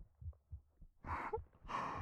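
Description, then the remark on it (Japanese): Soft, muffled heartbeat thumps repeat in a steady rhythm. Partway through, two louder breathy swells, like slow inhales and exhales, wash over the beating. “ほら、ゆっくり息をして。ただ私の心臓の音だけを聞いていて”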